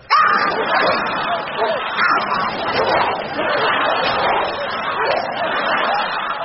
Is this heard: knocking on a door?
no